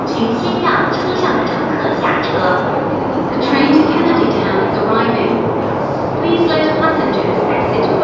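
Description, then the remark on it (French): A metro train ride toward Tsim Sha Tsui: a steady, loud rumble of the carriage in motion fills the whole recording, while a voice makes onboard announcements over it. “Pour y aller, le plus rapide est le métro.”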